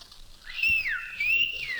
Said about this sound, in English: I went down to her house to elope. I whistled up to the window.